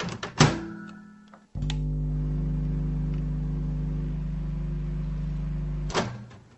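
A door clunks shut, then a microwave oven hums steadily for about four seconds at close range before another thunk of the door opening. No one speaks.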